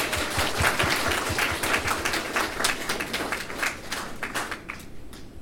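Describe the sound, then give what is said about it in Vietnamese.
A crowd applauds steadily at an event of the overseas Hue Medical Association (Hội Y khoa Huế hải ngoại), after a tribute to an honored member, with many overlapping hand claps forming a dense, sustained patter that thins out slightly toward the end. No one speaks. “Xin mọi người cho một tràng pháo tay.”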